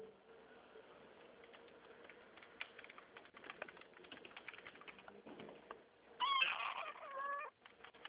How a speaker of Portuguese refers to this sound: Tá escutando o miado? Os gatinhos? Tô com um no pescoço. Que bonitinho. É pequenininha. Fofinhos, né?